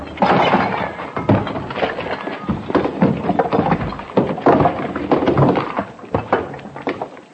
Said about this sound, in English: The whole thing's crumbling. Watch out.